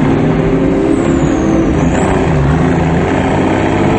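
A semi tow truck's heavy engine rumbles loudly and steadily as it pulls out onto a street, a deep droning growl with a faint high whine sweeping briefly above it.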